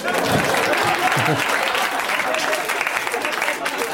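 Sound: clapping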